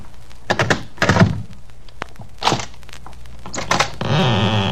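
A letter slides under the door of a flat: a few soft thumps and rustling scrapes against the door, ending in a steadier papery shuffle. No voices.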